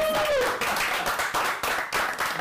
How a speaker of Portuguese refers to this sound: Eu acho que só o que está a acontecer antes do jogo começar merece um enorme aplauso